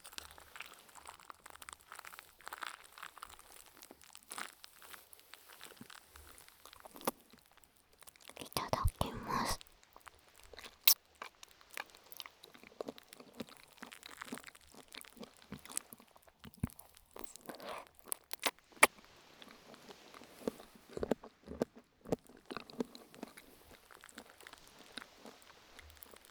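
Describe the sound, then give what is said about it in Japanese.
Wet slurping of tokoroten jelly noodles dressed with black vinegar, in Tokyo. A longer loud slurp comes partway through, amid soft crackling pops from the foaming tokoroten, clicks and quiet chewing, all whisper-quiet. “なんだろう、ラーメンの音再び。”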